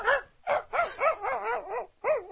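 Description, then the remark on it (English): A person vocally imitates a faraway dog, the neighbor's, barking in the distance, giving a series of about six muffled, yelping barks in quick, uneven succession, with no other talking. “I haven't asked you to do a faraway dog yet.”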